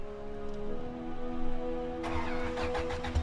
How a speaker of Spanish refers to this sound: Acuñó una tapa en el regulador de combustible de un auto de transmisión manual. Puso una velocidad y prendió el motor.